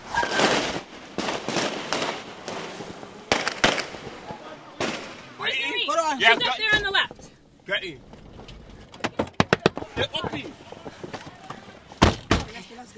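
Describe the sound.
Chaotic riot in a street: agitated voices shout and yell over a constant rumble, broken by loud sharp bangs and pops that come in irregular bursts, with a strained cry midway.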